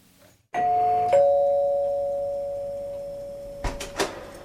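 A two-tone electronic doorbell at an apartment door, rung by a senior assistant on her weekly Thursday visit, chimes with a strike at about half a second and a second tone at just over a second, then rings out as a long fading tone, followed by a couple of soft knocks or clicks.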